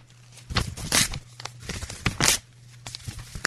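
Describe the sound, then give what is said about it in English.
A sheet of paper is ripped apart in two loud, rasping tears, with softer crinkling and rustling between them, and a low steady hum sits underneath. “Well, I need a piece of paper. Yeah, let's get a piece of paper. Let's do a Nancy.”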